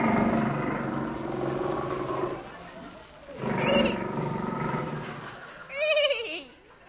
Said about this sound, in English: What was that noise, my captain? A man-eating tiger. Tiger? Yes.